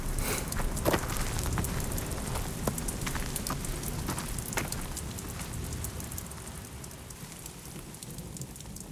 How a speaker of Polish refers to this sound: Słyszę, jak deszcz po liściach coraz głośniej pluska.